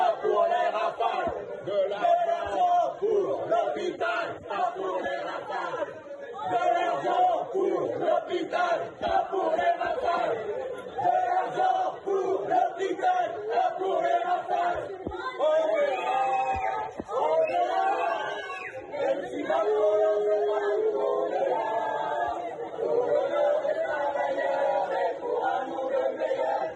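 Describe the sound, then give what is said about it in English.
A large French crowd shouts and chants in unison in anger at a politician kept away from them, a dense, sustained roar of many angry voices with rhythmic surges and occasional louder outbursts, continuing steadily throughout. “But listen to the anger of the French people when they look at this little man.”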